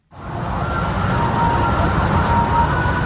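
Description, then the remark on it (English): An ambulance siren wails continuously for a few seconds, loud, its tone riding above a thick wash of street and crowd noise, as ambulances relay back and forth from the site of a school bus fire just outside Bangkok, Thailand. “Throughout the afternoon, ambulances relayed back and forth from the accident site, carrying the bodies retrieved from the blackened hull of the bus.”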